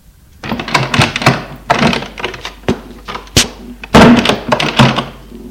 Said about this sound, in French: Philippe ouvre une porte.